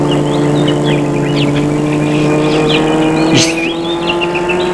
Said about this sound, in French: où il y a des bruits étranges et des frôlements, la voiture sort de la route. Et monte, monte.